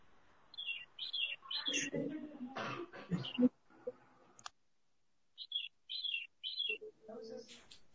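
Spring birds chirp in short, bright bursts, a few quick calls at a time with pauses between, while a person coughs and murmurs in the background.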